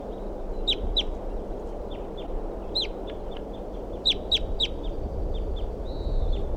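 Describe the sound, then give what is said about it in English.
A bird in a tree next to its nest tree calls repeatedly with short, sharp, high-pitched chirps in irregular bursts, some clustered in quick pairs, over a steady low rumble of background noise. No one speaks. “This is a bird in a tree next to the nest tree.”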